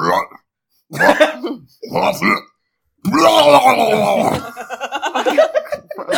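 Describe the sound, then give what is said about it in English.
A voice makes wet, gurgling, retching noises in a few short bursts, then a long loud throaty gargle that breaks into rapid sputtering pulses, imitating a gross sludge bomb poison attack. “Now it's time for a sludge bomb. Okay. This sounds gross.”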